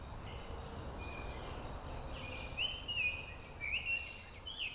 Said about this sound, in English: The singing is from atop Kessler Mountain in southeast Fayetteville. That's 30 seconds as a tanager flies from the university campus and that energetic mass of businesses surrounding and extending beyond.